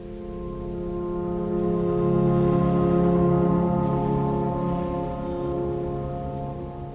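Steady rain heard inside a cathedral, blending into a sustained reverberant hum that swells slightly midway and holds at a moderate level, with no voices.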